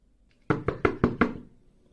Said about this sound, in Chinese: 谁敲门敲的那么大声呀？真是的，我先去开门啊。